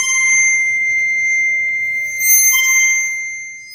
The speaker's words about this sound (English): And use a little bit of rosin, which is what violinists use on their bow, to create friction, we can move our hand along the rod to create this beautiful sound. And we can sustain that sound by moving back and forth, or we can make it really loud.